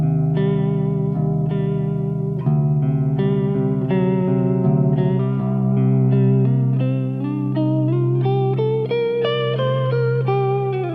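An electric guitar plays a steady run of sustained notes through a vibrato pedal, the pitch gently wavering as the melody climbs higher toward the end. No one speaks.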